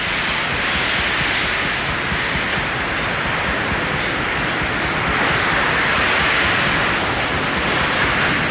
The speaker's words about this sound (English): To listen and hear this wind. This is about 140 mile an hour winds we're experiencing. This is unbelievable.